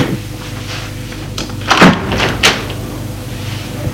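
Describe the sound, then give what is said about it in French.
A window being opened at night, with the street lamps lit and mild weather: two short wooden clunks and a rattling scrape around the middle, over a steady low background hum, with no voices. “L'homme regarde dans sa direction et doit entendre le bruit de la fenêtre qui s'est ouverte.”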